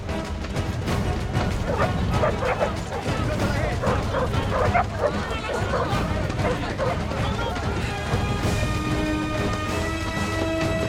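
A tracker dog, given a sniff of clothing by a handler, barks and yips repeatedly, loud and excited, over a dense, busy background of rumbling activity and clatter, with a sustained tone rising toward the end.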